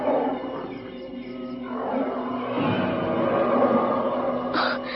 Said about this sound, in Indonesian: Oh, Restu, kau dengar suara harimau tadi?